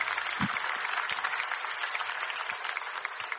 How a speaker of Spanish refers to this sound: Oye, un fuerte aplauso para la cocoa.